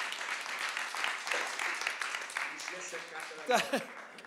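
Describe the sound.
An audience applauds with a dense, steady patter of many hands clapping, fading slightly near the end as a few voices and a brief cheer or laugh rise over it.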